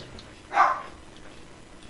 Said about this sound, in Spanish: Ay, disculpen que está ladrando la perra. Pero bueno, déjenme cierro la puerta.